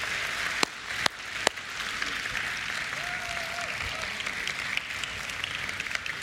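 Steady audience applause fills the whole stretch, a dense wash of many hands clapping, with a few sharper individual claps standing out near the start and a faint whistle-like tone partway through.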